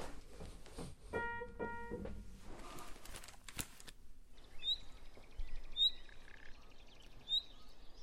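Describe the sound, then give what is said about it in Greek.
A brief melodic musical phrase of sustained tones gives way to high, bright chirping whistles imitating birdsong, repeated a few times at roughly one-second intervals, evoking a nightingale's song over a soft background hiss. “Εν πάση περιπτώσει, θα ήθελα να ακούσουμε λίγο τις πρώτες μελωδίες οι οποίες παραπέμπουν σε πουλιά. Δηλαδή, έχουμε ένα ειδόνι στην αρχή, το οποίο έτσι έχει αυτόν τον ήχο του.”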